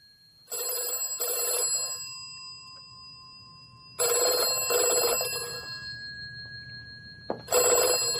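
A telephone rings in repeated double bursts, each pair a bright, warbling electronic trill, separated by pauses. The ringing is clear, with a faint low hum underneath and no talking.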